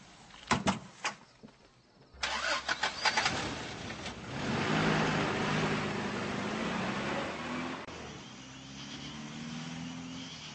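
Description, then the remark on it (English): A few sharp door-like clicks and thumps, then a car engine starts up and settles into a steady, rumbling idle with a faint rising hum, without any talking. “Stop the car.”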